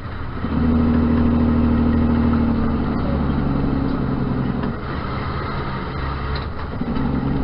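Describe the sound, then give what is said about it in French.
A Freightliner Inspiration semi truck, a self-driving truck shown in a demonstration, drones steadily and loudly on the road, its low rumbling engine tone shifting slightly partway through as it keeps running, with no voices. “Compagnie Freightliner Inspiration insiste dans la démonstration camion que camion Inspiration n'yo pas qu'au prête pour yo camion qui a roulé sans chauffeur.”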